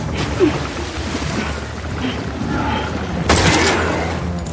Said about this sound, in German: Und Abby rannte in Sicherheit, schaute sich nebenbei um, schoss weiter auf ihren Gegner.